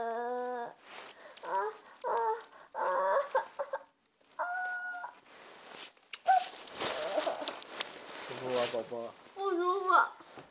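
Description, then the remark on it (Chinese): A chick clucks in a series of short, rapid bursts, interrupted midway by a stretch of rustling, scuffling noise before the clucking resumes. “嗯，摸摸小鸡。”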